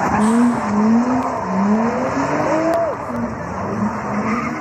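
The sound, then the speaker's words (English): Tires screech loudly and continuously as cars spin through intersections during a street takeover in Los Angeles, with high squealing tones sliding up and down over a dense roar of engines and cheering crowd noise. “Vehicles turn and screech through intersections, spinning dangerously close to cheering crowds.”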